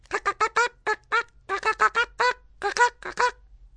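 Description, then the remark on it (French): A hen and her chicks cluck in a forest in a quick, steady run of about seventeen short, nasal calls, fairly loud, with no talking over them. “Il est fièrement juché sur le dos d'une poule, suivi de ses poussins qui remplissent la forêt de leurs caquettements et gloussements.”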